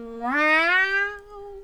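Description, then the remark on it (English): A person's voice imitates a single drawn-out cat meow, rising in pitch at the start and then gliding slowly down, fairly loud with no other sounds around it. “Can I have the catnip now? Meow. Meow. Catnip. Meow.”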